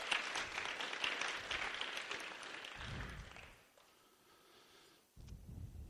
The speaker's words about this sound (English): So give her another round of applause.